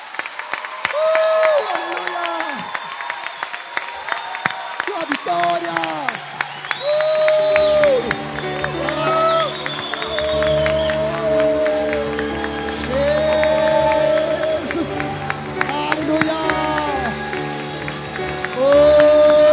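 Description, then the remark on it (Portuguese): An audience claps and cheers loudly and steadily for Jesus for about twenty seconds, with shouting voices rising above the applause. Sustained organ-like music with deep bass chords enters partway through. “Quero te convidar a te dar uma salva de palmas para Jesus.”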